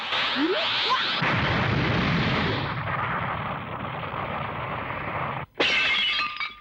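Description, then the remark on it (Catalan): At home, a red-haired girl makes a cup burst with a loud, rumbling blast that roars for several seconds, then after a brief gap a bright, crackling shatter of breaking pieces rings out, loud, scattering cup fragments across the floor. “A casa, la nena pèl roja explota una tassa.”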